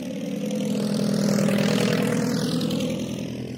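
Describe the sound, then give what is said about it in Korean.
A propeller airplane engine drones loudly and steadily, its pitch swelling and shifting slightly as the plane passes, with no voices present. It is Bessie Coleman's stunt plane at an air show, rolling its body and cutting the engine in the air, then restarting it just before landing. “콜먼은 비행기 몸체를 돌리면서 나르기도 하고 공중에서 엔진을 껐다가 착륙 직전에 다시 틀기도 했습니다.”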